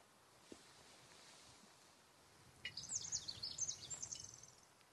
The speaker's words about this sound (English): Ten minutes pass. I hear birds, wind. To be honest, One Square Inch sounds a lot like all of the other inches of forest we passed through today.